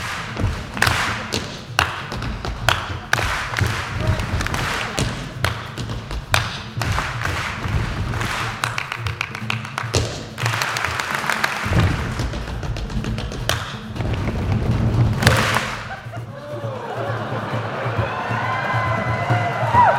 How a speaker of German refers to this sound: Einer der Improvisationskünstler klatscht, stampft und stimmt Rhythmen vor. Das Publikum macht es ihm bereitwillig nach.